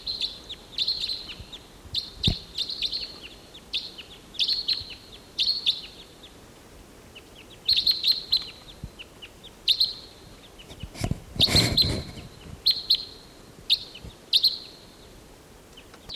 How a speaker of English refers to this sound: There's a pair flying over, three birds flying over.